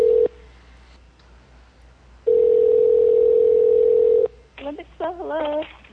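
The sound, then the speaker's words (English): A phone line's ringback tone on a call to the Olympic Spa asking about a lost coin purse: a steady electronic hum cuts off, pauses, then sounds again for about two seconds before a voice picks up and starts talking. “It's ringing, supposedly.”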